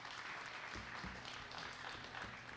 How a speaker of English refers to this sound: Lord another hand clap of praise for what he's done for us.